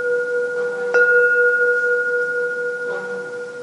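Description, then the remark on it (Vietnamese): A bell struck by the teacher rings with a steady, humming mid-pitched tone, struck once sharply so it swells and sustains, then tapped again more softly near the end as the ring carries on. “cũng là tiếng chuông.”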